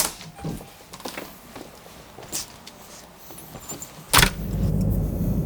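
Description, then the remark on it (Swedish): Keys jingle and light footsteps, then a car door thuds shut and an engine rumbles to life, a steady low hum filling the end as the car sets off for a customer meeting. “Ja, men det blir några mil i bilen”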